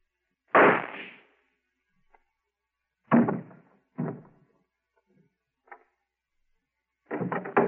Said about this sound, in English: I heard a shot. What happened? Oh, I see. How'd you shoot him? There's no gun in your hand, Professor.